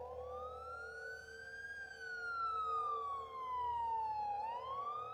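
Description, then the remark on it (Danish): A wailing ambulance siren sweeps slowly up and down in pitch, loud, over a low rumble of traffic, with no one speaking, as ambulances arrive at a house in Kalbakken, Norway, on a Sunday evening. “Ambulancerne begyndte at ankomme.”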